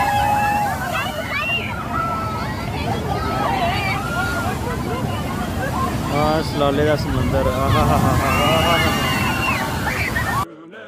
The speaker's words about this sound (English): Thank you. Finally, someone fucking flushed this goddamn toilet. Now these turds are going down, down, down the drain.